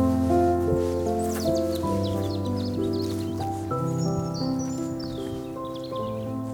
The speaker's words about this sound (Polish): Żegna nas duet dwóch rywalizujących rudzików